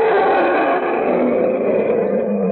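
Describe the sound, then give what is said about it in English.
An elephant at Kansas City's Hope Park Zoo trumpets in one long, loud, blaring call that holds steady for a couple of seconds, harsh, with no voices around it. “Well, anyway, that's what an elephant sounds like when he's tuned into the Monitor beacon.”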